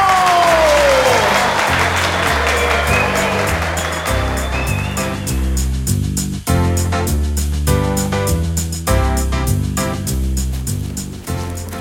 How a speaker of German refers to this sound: Herzlichen Dank und einen extra großen Applaus an unsere Clowns.